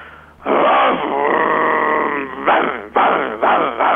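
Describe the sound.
A man's voice imitates a dog on request, starting with a long, wavering howl and then breaking into several short, sharp barks in quick succession, loud.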